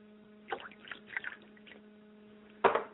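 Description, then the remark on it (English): Liquid being poured out as a libation for the spirits Yamanja and Obatala, in a few irregular splashing bursts, ending with a louder final splash, over a steady low hum. No one speaks. “I pour libations for my mother's spirit, Yamanja, and my father's spirit, Obatala, and I say Ashe to Obatala.”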